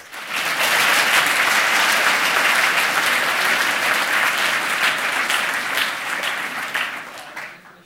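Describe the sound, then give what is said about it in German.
Sustained audience applause welcoming a speaker before a talk, a dense wash of many hands clapping at steady volume for several seconds before tapering off near the end. “Und bitte einen herzlichen Applaus”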